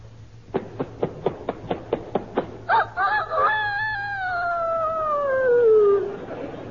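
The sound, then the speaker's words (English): A run of about nine sharp, evenly spaced taps, then a loud, drawn-out rooster crow that starts with broken bursts and slides downward in pitch: a human voice imitating a year-old rooster, part of an impersonation routine called The Life of a Rooster. “Now a year old rooster.”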